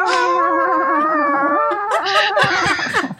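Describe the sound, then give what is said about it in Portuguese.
A human voice imitates a cat in heat, holding a long, wavering, yowling meow for nearly two seconds before breaking into choppier, strained cries. “Tu começa a fazer, então, o teu miado de gata no cio.”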